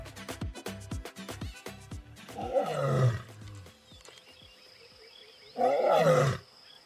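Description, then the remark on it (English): Deep, rumbling lion roars on the savannah sound loud, with a series of short grunting huffs at the start followed by two long, powerful roars separated by a quieter pause. “Lions roaring on the savannah.”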